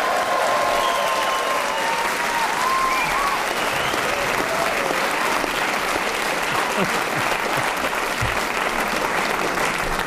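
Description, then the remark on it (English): A studio audience breaks into loud, sustained applause, dense clapping filling all ten seconds at a steady level, with a brief whistle or cheer rising above it early on. “A resounding round of applause.”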